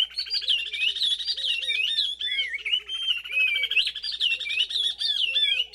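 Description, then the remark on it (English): A pair of oriole warblers in Senegal duet continuously: the female gives rapid, repeated, rising staccato chirps while the male weaves in clear, sliding whistles over the top, the song busy and unbroken throughout. “In this duet of oriole warblers from Senegal, the female keeps time with a rising series of staccato notes as the male whistles along.”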